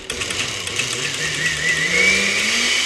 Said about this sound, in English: Carla ladles everything into a blender and pulses it to a silky smooth texture